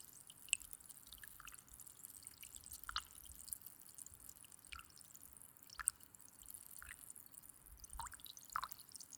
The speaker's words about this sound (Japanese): ありがとうございます。じゃあ綿棒に炭酸いっぱい染み込ませますよ。